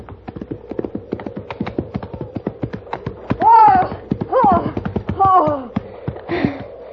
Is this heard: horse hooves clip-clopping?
yes